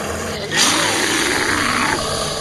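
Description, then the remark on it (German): A deep, rumbling bear growl, for the bear beside the statue of Saint Gallus at the entrance of the parish church of St. Gallus and Ulrich in Kisslegg, rises abruptly and holds loud for nearly two seconds, rough and sustained with no other voices. “Das Bärenknurren noch im Ohr betrete ich die Kirche.”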